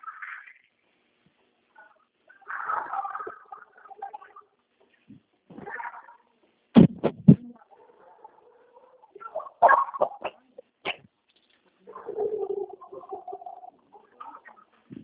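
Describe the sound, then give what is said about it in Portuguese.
Dog noises come in scattered bursts, whines and yelps with a few sharp knocks mixed in, moderately loud, with quiet gaps between and no one talking. “Ah, acho que isso é uma sala de som de cachorro aqui, cara.”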